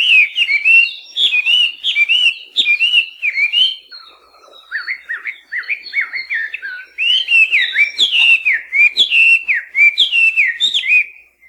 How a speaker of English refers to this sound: melodious laughing thrush are native to southern China and southern Asia and were first brought here as cage birds by cane workers from China in the late 1800s.